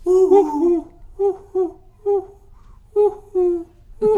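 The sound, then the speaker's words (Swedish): A young Swedish man mimics a cuckoo with his voice, giving repeated two-note hooting calls in a steady rhythm, fairly loud, with no talking. “Jag får höra dig härma göken.”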